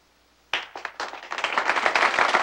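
Clapping starts abruptly and builds into rapid, overlapping handclaps from a few audience members applauding a performer on a stage, growing denser and steadier over a couple of seconds with no voices.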